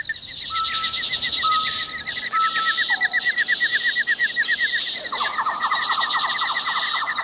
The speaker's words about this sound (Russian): Птичий щебет, который улавливало ухо среди прочих звуков леса, где я собирала грибы, внезапно умолк.